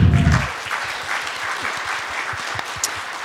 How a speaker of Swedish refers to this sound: men jag tänker att vi ger hon en sista applåd och säger varmt välkommen.